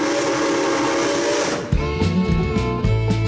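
A loud steam train whistle blows over a rushing hiss of steam, then settles into sustained chugging tones with a second whistle blast near the end, no voices present.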